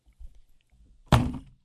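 A gallon water jug is set down on the counter where the microphone is, with a single heavy, hollow thunk that fades quickly, following a few faint low shuffles and bumps.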